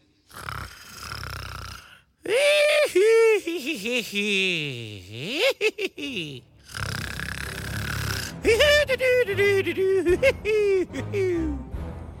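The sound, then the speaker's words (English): A voice imitates snoring in exaggerated bursts, a jail guard pretending to be asleep: rasping inhales, then wavering, sing-song whistling exhales that slide up and down in pitch, repeated several times, loud and theatrical. “Who ever heard of somebody snoring like that?”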